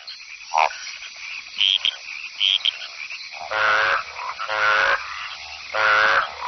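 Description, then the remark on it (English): A dense chorus of many frogs making competing courtship calls over each other, with loud, raspy croaking bursts repeating and higher chirps and trills filling the background. “The cacophony of competing calls seems deafening to us, but frogs' ears are tuned to hear only the calls of their own kind.”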